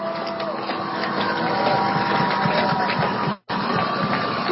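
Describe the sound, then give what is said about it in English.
A bell rings through a stadium loudspeaker during a football game between West Valley and Enterprise, its thin sustained tones barely rising above a dense, steady crowd roar, with a brief dropout near the end. “You can hear the bell going over the loudspeaker.”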